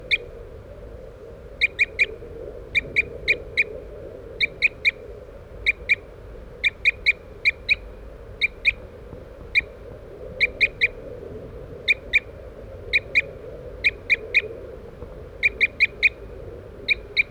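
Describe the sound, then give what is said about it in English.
A crossbill, decoy bird 3-3, gives short, sharp toop calls in quick clusters of two or three, repeating steadily over a low, constant background rumble, at the Lower Net site at Poverty Hall around 8:15 a.m. “we're using birds 3-3, who's tooping in the background, and 4-3 as decoys.”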